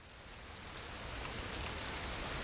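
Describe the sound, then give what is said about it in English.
Steady rain pattering down on the soil and plants of a newly planted flowerbed in Camden, a dense, even hiss of drops that swells slightly over a couple of seconds, with no voices. “Back here in Camden, the newly gardened flowerbed is getting its first taste of rain.”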